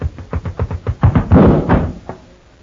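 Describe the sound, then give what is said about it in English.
A quick run of sharp knocking thuds builds into a heavier bang as a door slams shut, followed by a fading rattle and quiet. No voices are heard. “There's no light for that door closed.”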